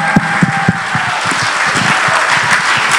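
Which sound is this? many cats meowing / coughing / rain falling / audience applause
audience applause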